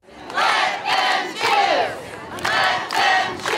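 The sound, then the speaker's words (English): A crowd of about 200 parents and children protesting school vaccine mandates at Balboa Park in San Diego, California, chants in unison, loud shouted phrases repeating in a steady rhythm with brief pauses between each burst of voices. “Here in San Diego, protesters gathered at Balboa Park.”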